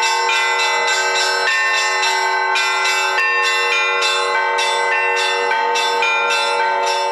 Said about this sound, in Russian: Духовенство и верующие под колокольный звон обошли храм крестным ходом.